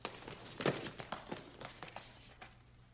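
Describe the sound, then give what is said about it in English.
Hurried footsteps of people rushing across a hard floor past wires toward a cube, a quick irregular patter of steps with one heavier thud early on, fairly quiet and fading slightly toward the end. “They rush past wires on the floor towards a cube.”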